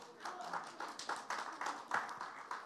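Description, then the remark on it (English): Audience clapping, a steady patter of fairly quiet handclaps repeating every third of a second or so for the whole stretch, with no voices over it. “Yeah, you can clap.”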